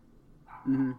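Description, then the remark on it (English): A dog gives a single short, loud bark, rising out of a faint low background murmur in the second half of the moment. “And maybe when the game comes out, and if it's good, like for the relaunch, that dog that's barking can play it, and maybe it'll stop barking.”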